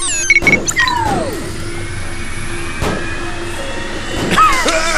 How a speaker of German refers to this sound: Seine rechte Hand fuhr beinahe zärtlich über die Steuerkonsole und drückte den Anlasserknopf. Mit einem gewaltigen Knall sprang der Motor an und eine dicke Qualmwolke nebelte das Wohnzimmer ein.